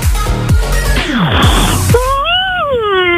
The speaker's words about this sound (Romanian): Bă, mă, pe bune, voi așa căscați?